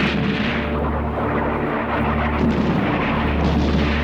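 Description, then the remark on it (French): A heavy artillery bombardment at dawn against Turkish positions rumbles on without pause, dense overlapping cannon booms merging into a loud, continuous roar with a deep low drone underneath and no voices. “Oui, tous les canons sont en position. À l'aube, le bombardement commencera et nous l'arrêterons à 4h30, très précise.”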